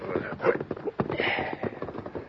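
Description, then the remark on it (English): Two riders' horses' hooves clop irregularly and slow to a stop, with Starvation Rock barely visible in the distance, a handful of sharp thuds over a steady hissy background. “The outline of Starvation Rock was barely visible in the distance when York and Blandon stopped their horses.”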